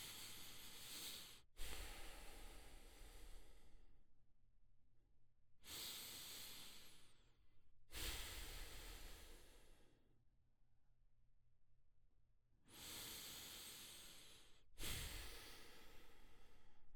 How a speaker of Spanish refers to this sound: Usted escucha un micrófono Rode NT1 Signature Black, conectado a una interfaz Scarlett solo de tercera generación. Esta grabación es completamente plana, sin compresión y sin ecualización. Respiración.